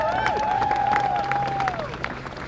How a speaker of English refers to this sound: Round of applause.